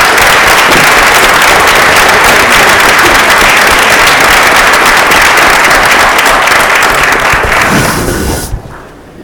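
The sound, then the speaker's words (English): A crowd applauds loudly and steadily for the fall and winter season athletes at Clinton Township Middle School, a dense wash of many hands clapping at once that holds for about eight seconds before quickly dying away. “One more time, round of applause.”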